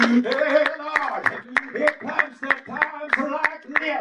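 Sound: audience clapping hands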